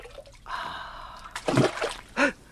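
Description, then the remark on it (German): Two heavy splashes as two stones, knocked off a well's rim while someone bends down, fall one after the other into the deep well water, fairly loud, after a brief scraping rush; no one speaks. “Die Steine. Alle beide. Beim Bücken habe ich sie hinabgestoßen. Da sinken sie.”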